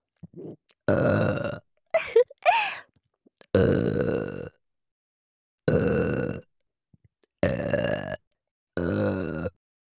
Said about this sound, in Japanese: お姉さんが みんなのためにいくらでもエロゲップしてあげちゃうぞ。